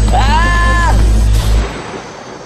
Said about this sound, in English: A gunshot rang out, not a fatal shot, just a warning.